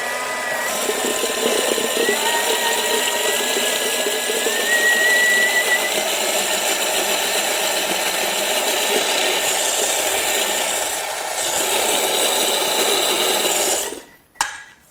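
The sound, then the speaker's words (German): A blender runs continuously for about fourteen seconds, a loud, steady, grinding motor whine churning hummus with two beetroots added, then cuts off abruptly at the end. “In das restliche Humus im Mixer habe ich jetzt zunächst mal zwei rote Beete reingegeben und mixe Mach's mal.”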